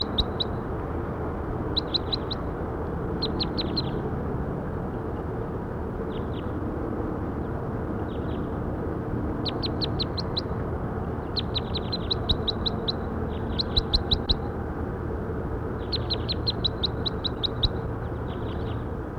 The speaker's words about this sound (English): That was bird 5-7.